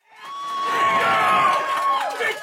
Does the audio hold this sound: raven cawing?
no